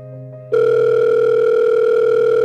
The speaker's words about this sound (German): Das Telefon klingelte nochmal. Am anderen Ende der Leitung nahm jemand ab.